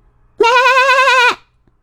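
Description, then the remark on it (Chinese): A single loud, wavering sheep bleat lasting nearly a second with a trembling, vibrato quality, then quiet. “阿巴每天最喜欢做的事儿，就是到绵羊村，远远地看着羊儿们吃草做游戏。”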